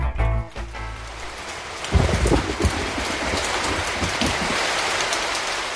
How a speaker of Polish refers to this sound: Kolorowe liście, wiatr, deszcz.